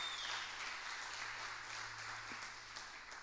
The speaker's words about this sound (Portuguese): Dá uma salva de palmas a Ele se você crê nisso.